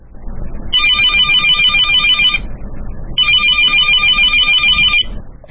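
A telephone rings in two long bursts of bright, high-pitched electronic trilling, separated by a short pause, over a steady low rumbling background.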